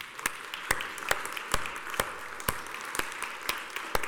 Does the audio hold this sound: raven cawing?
no